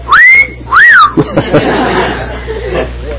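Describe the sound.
A loud two-note wolf whistle, a rising sweep followed by a rise-and-fall glide, whistled by a person as an imitation, then followed by a burst of scattered laughter and murmuring.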